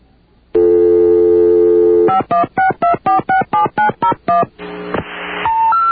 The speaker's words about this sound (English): Let's see if we can get our dial tone here.